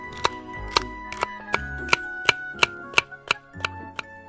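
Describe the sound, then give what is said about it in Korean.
A knife chops through apples on a cutting board in about ten sharp, evenly paced, crisp strikes, with no talking; the apples are being cut up to make apple syrup and apple jam. “이게 다 지나치게 잘생긴 과일 트럭 사장님과 이 맛있는 사과 때문이다. 전부 썰어버리겠어.”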